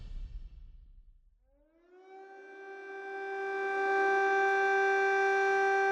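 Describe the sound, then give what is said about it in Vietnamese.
An air raid alarm siren in Kyiv winds up from a low rumble into a steady, loud wail with layered harmonic tones, rising in pitch over a couple of seconds and then holding constant. “Hồi báo động trước đó khoảng tầm 15-20 phút, mình đang làm việc thì nghe tiếng báo động.”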